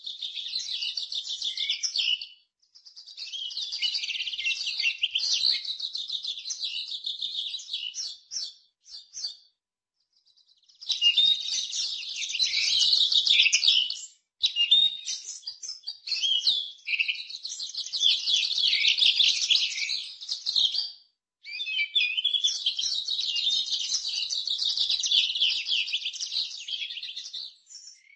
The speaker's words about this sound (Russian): Хотя я много записывал птиц, но я успел на птичий базар, я это услышал ближе еще. Да, у нас сейчас есть редкий случай, когда мы можем послушать сейчас птичий базар.